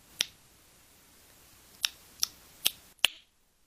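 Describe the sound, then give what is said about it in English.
Five sharp, crisp tongue clicks for echolocation, made by blind echolocation expert Daniel Kish, who hears their echoes off solid surfaces to image his surroundings. Bright and loud, spaced irregularly with a long pause after the first, then coming in quicker succession, with no talking. “Those are sounds from Daniel Kish, a blind man, using sound to see the world around him.”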